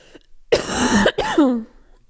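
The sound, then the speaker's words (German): Two loud, raspy coughs from a person who has been ill, one after the other with a brief pause between, the second trailing off into a hoarse, voiced rasp. “Oh, ich muss einmal husten, wo ich...”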